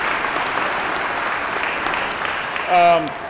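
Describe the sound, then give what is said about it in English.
An audience claps for a woman who works in economic development and has been asked to stand up, a steady, dense wash of applause that holds evenly throughout, with a brief voiced cheer rising over it just before the end. “Come on, stand up so they can look at you. Please clap for her.”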